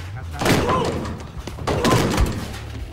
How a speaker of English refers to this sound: Listening outside the room, Ben's grabbed by Bobby and slammed against the door.